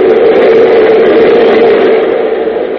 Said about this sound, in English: Suddenly a train roars past the windows, its lights illuminating the faces of the two men.